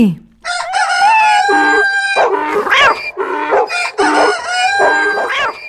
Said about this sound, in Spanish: Luego todos juntos y de una vez empezaron a cantar a todo pulmón. El asno rebuznando, el perro ladrando, el gato maullando y el gallo cantando su kikiriki.